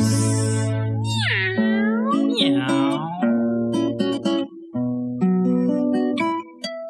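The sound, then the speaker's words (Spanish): A cat meows repeatedly in drawn-out, rising and falling cries, loud, over a steady musical backing with a low sustained tone. “Dime miau, miau, miau, miau, miau, miau, miau, miau. Mi gatito”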